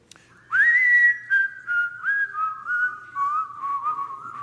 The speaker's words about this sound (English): Can you whistle that with me?